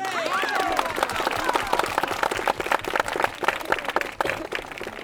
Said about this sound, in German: Als die Musik endet und einen Moment lang verhallt und nachklingt, springen alle hoch und jubeln dem Nachwuchstalent zu.